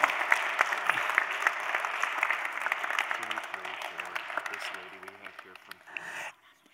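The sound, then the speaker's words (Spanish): A church audience applauds to welcome people taking on ministry roles, in a dense, steady wash of clapping for about six seconds, with faint voices murmuring underneath partway through, before the applause stops abruptly. “Un aplauso más, hermanos.”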